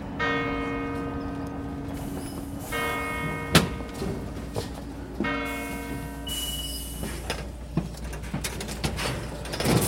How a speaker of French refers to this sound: Et puis voilà, ces cloches aussi.